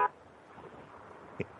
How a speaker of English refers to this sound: Moose is leaving the Atlanta airport now, folks. That's why you're hearing the horns honking.